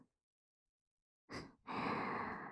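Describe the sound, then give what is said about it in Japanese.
Two soft breaths are blown into the listener's ear to tickle it: a quick airy puff, then a longer, steady exhale with a gentle hiss. No voice is heard, only the breath after a moment of silence. “これを着てこうしてキューンって腕を抱きしめて思いっきり寄りかかって、お兄さんの耳吐息でふうふうくすぐっちゃいますね。”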